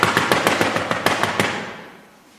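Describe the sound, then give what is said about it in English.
Rapid, insistent knocking on a door, about ten sharp raps in quick succession with a slightly uneven rhythm, then a fading ring as the knocking stops. No voices. “Our knocking needs to be continuous, like we're eager to get inside and really talk with him, like this.”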